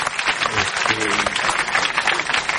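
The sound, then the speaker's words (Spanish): A crowd claps steadily for a couple of seconds, a dense crackling wash of applause with a few voices calling out underneath. “Pueden aplaudir también, aunque sea poco.”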